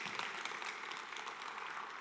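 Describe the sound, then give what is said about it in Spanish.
A church audience claps steadily to give thanks for being alive, a dense wash of many hands applauding at an even level for the whole moment, with no voices breaking through. “Levanta un fuerte aplauso si está agradecido, porque hay vida.”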